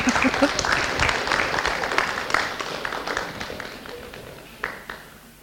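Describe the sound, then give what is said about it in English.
An audience at a Mother's Day church service claps to encourage children coming up to pray, steadily in a dense, continuous wash of sharp hand claps that gradually thins and softens toward the end, with a few louder isolated claps near the finish. “Can we clap for them to encourage them to come up faster?”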